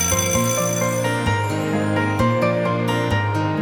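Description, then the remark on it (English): A loud bell rings continuously for several seconds, its bright metallic tone sustained and steady with repeated strikes, with no one talking. “The bell's gonna ring any minute.”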